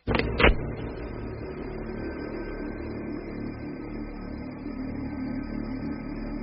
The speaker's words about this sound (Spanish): Quedé muy inquieto y de inmediato salí a la calle. Oh, parecía que todos los autos del mundo habían decidido circular esta mañana.